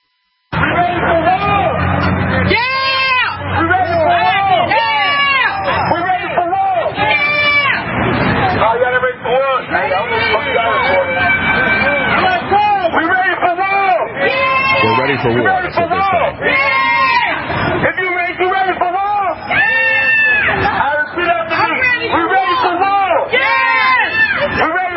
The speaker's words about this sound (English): Black Lives Matter mob invades Central West End, busts out car lights, beats pedestrians. Here's a clip of that, what that sounds like, what it looks like.